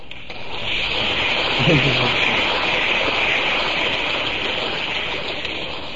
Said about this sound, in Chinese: 这鼓掌表示是很赞成。